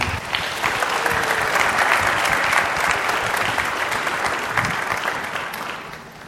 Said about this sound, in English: In the name of the Lord Jesus Christ, we dedicate this beautiful child. Amen and amen. Yeah. Just hear a round of applause for this family.